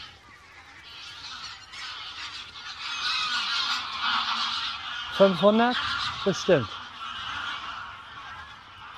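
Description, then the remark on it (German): A dense, continuous wash of honking from a flock of about 500 geese taking off fills the air, loud and chaotic, with a few louder calls standing out and a brief spoken word underneath. “Das waren bestimmt 500 Gänse.”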